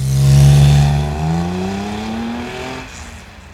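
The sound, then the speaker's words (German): A car engine roars loudly and revs upward as the vehicle accelerates away, its rising whine steadily fading over a few seconds. No voices accompany it. “Dann raste das Auto davon.”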